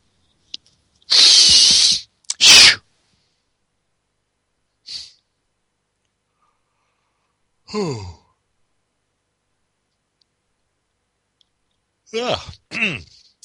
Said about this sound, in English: Didn't mean to yawn in your ears.